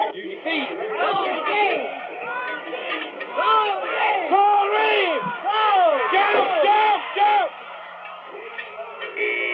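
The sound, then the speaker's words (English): A rodeo crowd roars during a bull ride on a crossbred bull, with many overlapping voices whooping, yelling and cheering in rising and falling bursts that stay loud throughout. “Let's move down to the pens and see what it sounds like.”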